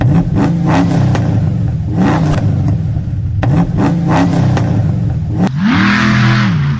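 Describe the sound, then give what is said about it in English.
A big, throaty monster truck engine revs hard again and again in Memphis, Tennessee, its pitch climbing and falling in loud surges, with a steady rumble underneath and no voices. “who is behind the steering wheel right now of this monster truck.”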